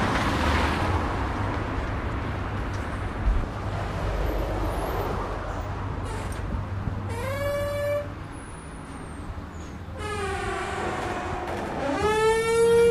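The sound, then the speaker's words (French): A gym's entrance door lets out odd, drawn-out squeals, two strong whining tones with shifting pitch over a steady rumbling background, and nobody speaks. “C'est la porte d'entrée du club de gym. Hein. Faut pas se méprendre, même si elle fait un drôle de son.”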